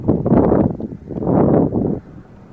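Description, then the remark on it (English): Wind buffets an outdoor microphone at night in two loud, rumbling gusts, a low roar swelling and fading, then dropping to a quieter hiss at the end. “Windy tonight.”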